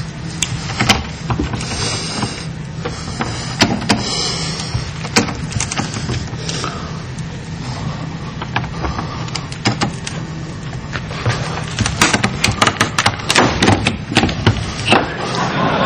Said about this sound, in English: And this is a special breaker tool that's available in a... widely available. This isn't anything difficult. So then he's just tightening the screw and he's going to pull the lock right out of the door.